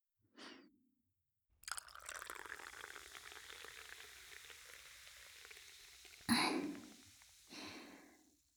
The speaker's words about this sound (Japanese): そういうことだからさ、お酒がぬるくならないうちに飲んじゃおう。あ、せっかくだからコスのまま注いであげる。